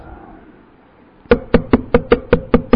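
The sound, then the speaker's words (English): About eight loud knocks on a wooden door in a quick, steady rhythm, beginning after a stretch of quiet background noise. “Someone is knocking at the door.”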